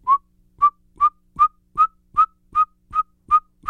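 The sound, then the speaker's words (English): A person whistles an imitation of a saw-whet owl: about ten short, clear toots at one steady pitch, evenly spaced in a quick, monotonous rhythm, with no talking. “The saw-whet owl sounds like a pygmy owl, but it's more uplifted, so it kind of goes...”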